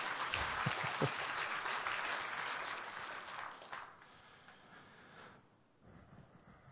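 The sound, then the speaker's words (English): A crowd applauds the helpers with dense, steady clapping that holds strong for several seconds, then thins and fades to a quieter patter toward the end. “Okay, let's give our helpers a clap here.”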